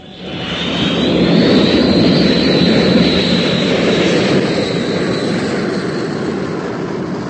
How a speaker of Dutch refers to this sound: En nauwelijks een uur na het gesprek tussen Jeff en Frank kwam de reusachtige vrachtvaarder donderend over de karavaan heen vliegen.